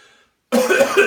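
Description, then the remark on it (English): A single loud, harsh cough from a person who has just smoked tobacco, bursting out after a brief pause and rasping on for a moment, with a faint murmur beforehand. “and then you cough.”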